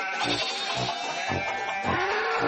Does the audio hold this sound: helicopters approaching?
no